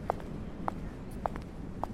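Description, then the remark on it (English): Steady footsteps at an even walking pace marking the tempo of a walking tour through Muranów, four evenly spaced steps landing about every half second, over a low, rumbling background hum. “The footsteps you will hear in the background mark the tempo of the walk.”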